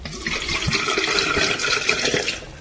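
Water being poured out of a bottle, a steady gushing splash that runs for a couple of seconds before tapering off, with no talking.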